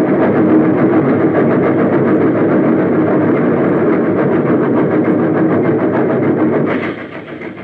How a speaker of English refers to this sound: He was still standing when the train plunged into the smoke-filled shaft.